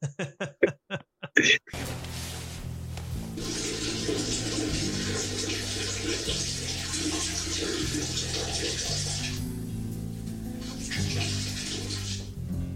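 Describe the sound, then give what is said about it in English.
A bucket of water is dumped out in a yard in a long, rushing splash lasting several seconds, briefly tapering off before a final gush, after a few short tonal blips at the very start. “I'm gonna go dump a bucket of water in the yard.”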